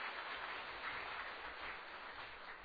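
A crowd applauds steadily, a dense, even wash of many hands clapping that holds at a constant level for a few seconds, with no voices heard.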